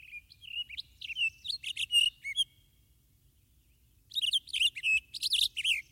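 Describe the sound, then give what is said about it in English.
Birds chirp in two lively bursts of rapid, high tweets separated by a short pause, with a faint low rumble underneath and no voices. “Plants that evolved fruits with edible flesh could attract birds to eat them.”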